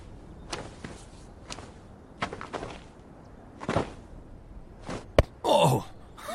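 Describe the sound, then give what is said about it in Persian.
A ball is tossed and caught a few times, thrown by a boy, making soft, irregularly spaced thumps, then a sharper smack followed by a brief whooshing sweep. No one speaks. “ای آقا پسر، میشه اون توپا برای من بندازی؟”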